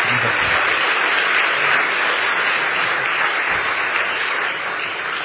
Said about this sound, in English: Give her a wee round of applause. She was praying, wasn't she?